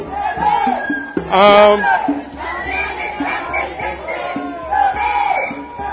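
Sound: crowd of protesters shouting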